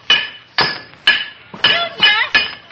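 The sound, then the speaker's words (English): Six loud metallic clangs as a character bangs on a metal pipe with his head, each ringing out with a bright, bell-like tone, spaced about half a second apart and quickening slightly toward the end. No one speaks. “Are you banging on that pipe with an iron bar?”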